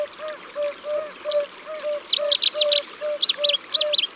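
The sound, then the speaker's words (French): A Cetti's warbler bursts into loud, explosive song: quick clusters of sharp, ringing notes repeated in rapid succession, over a steady, evenly spaced low piping call in the background. “Ça, c'est une bouscarle de Seti.”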